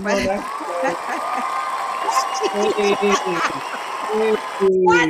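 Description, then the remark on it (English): A cheering and applause sound effect plays steadily for about five seconds, a dense wash of clapping with shouts and whoops rising over it, and excited voices mixed in throughout. “Where did the sound effect come from?”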